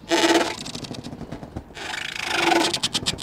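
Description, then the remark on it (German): Moored boats, with plastic fender balloons pressing against the pontoon, creak and squeak: two long, rasping groans with a squeaky, whining edge, separated by a quieter stretch of soft rubbing and knocking. No one speaks. “Niedlich klingt es, das Knarzen und Quietschen, als ob kleine Monster vor sich hin brabbeln.”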